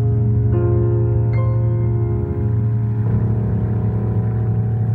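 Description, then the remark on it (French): A loud, steady aircraft engine drones continuously, briefly stumbling and sputtering near the middle before the engine picks up again and the sputtering stops, settling back into a smooth, slightly shifted hum. No voices are heard. “Et d'ailleurs, le moteur repart et le bafouillage cesse.”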